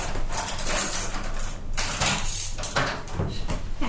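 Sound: door being opened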